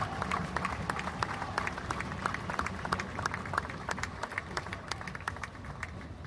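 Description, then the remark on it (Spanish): A crowd applauds fellow comrades steadily, dense overlapping claps with sharp individual claps popping out, sustained at an even level for several seconds with a low murmur beneath. “Quiero el aplauso para esos compañeros, porque nosotros no solamente vamos a rezar, también venimos acá a pelear, compañeros.”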